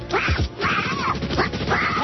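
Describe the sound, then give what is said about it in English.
A voice imitates a duck with a string of raspy, nasal quacking sounds, fast and garbled like unintelligible chatter, loud for about two seconds. “We interrupt this weather report to take you live to Iraq and special correspondent Donald Duck.”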